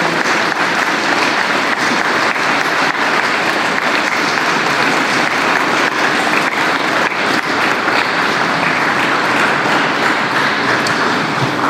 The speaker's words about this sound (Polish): Także tu z całego serca wszystkim za wszystko, a szczególnie młodym z Ostrołęki, młodym wolontariuszom serdeczny Bóg zapłać i wielkie tutaj uznanie i wielkie brawa dla nich, bo naprawdę wielka robota, wielkie dzieło.